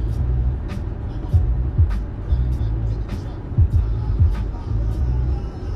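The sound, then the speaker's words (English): A steady rush of hot air from a car's ventilation blows continuously over a low engine-like rumble, with a few faint clicks and thumps scattered through it. “Why is there hot air being pumped into the car?”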